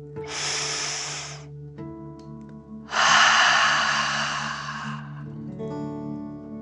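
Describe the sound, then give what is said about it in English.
A slow, airy deep breath drawn in through the nose, then after a short pause a long, forceful rushing exhale through the mouth, done as a relaxing dragon breath, fairly loud over a soft, steady musical drone. “Breathe in through your nose, filling up your belly, and then out through your mouth, pretending you are breathing fire. Ready? Deep breath in and out.”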